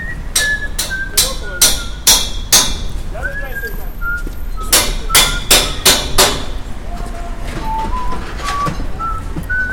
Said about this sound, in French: Vous faites un de ces bruits. Ah ouais? Ah ouais. Moi je suis voisin, j'habite au-dessus là. J'arrive pas à dormir là. Pour le coup de marteau? Ouais.